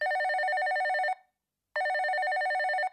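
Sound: telephone ringing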